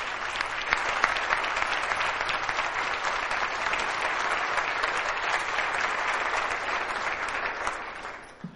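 A roomful of people clapping steadily, a dense wash of many hands close and loud throughout, tapering slightly in the final second.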